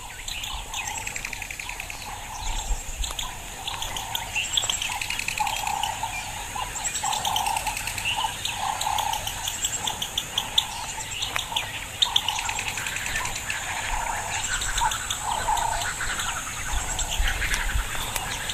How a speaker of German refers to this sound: Ja, dieses Vogelgezwitscher. Das war schön, immer damit irgendwie ein bisschen geweckt zu werden.